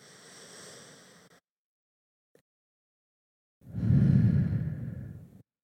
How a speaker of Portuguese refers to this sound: Durante esse um minuto, está permitido soltar qualquer obrigação, peso, tensão, estresse e dar uma respiração mais profunda.